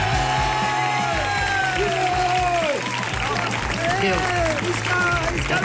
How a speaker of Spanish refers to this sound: el que sentim són aplaudiments del públic que us acompanya.